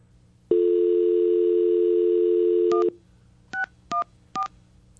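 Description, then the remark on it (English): A steady telephone dial tone hums for about two seconds, then four short keypad beeps follow at a quick, uneven pace, clear with no voices, as someone dials a phone to call a person. “All right, let's get him on the phone.”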